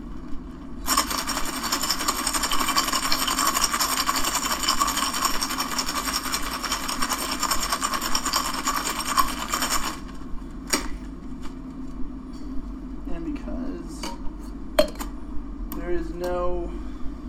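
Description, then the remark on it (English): Ice rattles hard and fast inside a cocktail shaker for about nine seconds, a dense, steady clatter, as a drink mix of ice cream and raw egg is emulsified with an ice shake. It then stops, followed by a few scattered clinks and a brief voice. “And then even though it is ice cream, we do have a raw egg in there, so I'm going to emulsify it with an ice shake.”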